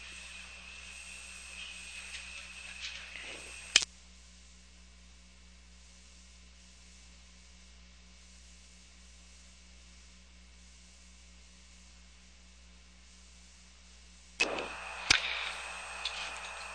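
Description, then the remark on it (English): Steady radio carrier noise, a static hiss with a faint hum underneath, cuts off abruptly, leaving a long near-silent stretch, then the crackling noise bursts back in with a few sharp clicks before the end, as a transmission is expected. “Getting a carrier noise now, which is probably indicative of a transmission coming.”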